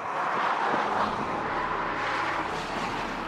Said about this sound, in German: Der Wagen bewegt sich weitgehend lautlos. Wir hören hier nur die Reifen und den Wind.